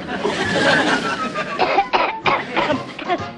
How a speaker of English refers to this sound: I must have picked up a cough somewhere. You picked up a cough and I'm starting to hear things.